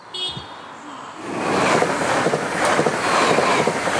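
A car drives across a railway level crossing, its driver risking his life at the spot, its rumble swelling after a faint high tone at the start and staying loud over the tracks. No one speaks.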